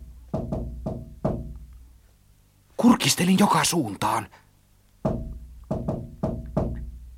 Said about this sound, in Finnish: Minä kuvittelen vain, minä ajattelin. Mutta silloin kuului koputusta. Se ei ollut kuvittelua.